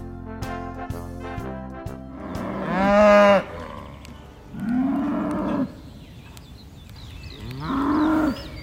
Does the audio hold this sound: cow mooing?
yes